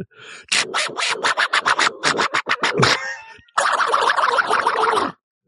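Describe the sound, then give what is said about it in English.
A voice does a Donald Duck impression: a quick run of raspy, squawking bursts, a brief pause, then one long, loud, sputtering angry garble before it cuts off. “The angry duck at the end was great.”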